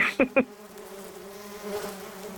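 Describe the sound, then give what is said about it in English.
A dense swarm of thousands of bees on a person drones steadily, a continuous layered buzz, opening with two or three sharp clicking taps before the humming settles in and carries on without talk. “Have you ever had thousands of bees on you?”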